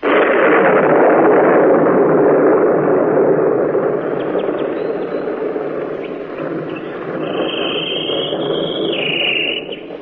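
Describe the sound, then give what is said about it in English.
A long, loud roll of thunder rumbles for the whole stretch, and toward the end a bird answers with a few high, clear whistled notes above the roar. “Here is a bird who talks right back to thunder.”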